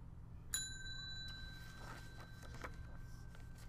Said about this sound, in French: Voici un oiseau cloche à tête blanche. Cet oiseau habite en Amérique du Sud. Son cri ressemble à des cloches qui sonnent. Il y a de longs morceaux pointus qui poussent du bec de l'oiseau mâle.